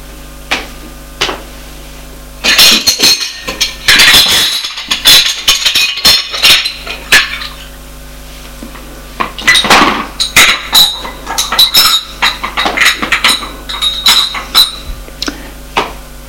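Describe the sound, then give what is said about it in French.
A breakfast tray is set down on a coffee table with a burst of clattering dishes and clinking cutlery, followed by a quieter pause and then another run of light, rapid clinks and taps of china and metal. “Il pose le plateau sur la table basse.”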